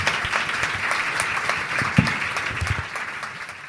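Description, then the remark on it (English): An audience gives a round of applause for two people, a dense crackle of many hands blending into a continuous wash of applause at moderate volume, with no voices standing out. “I will also ask you to join me in a round of applause”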